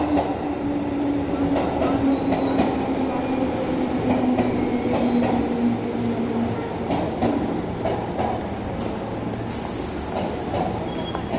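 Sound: train arriving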